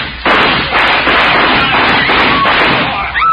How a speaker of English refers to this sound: When he comes, we'll go in shooting. Don't forget that. Shoot into the air.